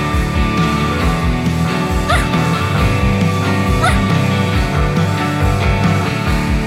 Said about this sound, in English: And Ruff Ruff the dog is Ruff Ruffing about, biting at our heels and chasing the tennis ball.